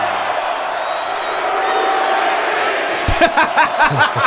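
A large wrestling crowd in Minneapolis roars in a steady wash of cheering for Brock Lesnar's homecoming, then breaks into loud rhythmic chanting of "Suplex City", with a couple of Goldberg chants, pulsing repeated shouts for the last second or so.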